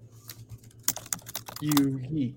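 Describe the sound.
Loud, fast clacking of a computer keyboard, keys struck in quick irregular bursts close to the microphone, with a person's voice briefly speaking over the typing near the end.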